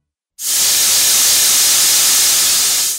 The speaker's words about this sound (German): Was hier aus einer Druckflasche strömt, ist reines Wasserstoffgas. Es lässt sich sehr sauber verbrennen und hinterlässt als Rückstand lediglich Wasserdampf.